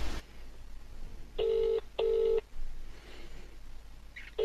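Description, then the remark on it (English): A phone call to Sips rings out unanswered: a steady, mid-pitched ringback tone in a double burst, two short buzzing pulses with a brief gap, then a pause before the next pair begins. No one speaks. “He's not answering.”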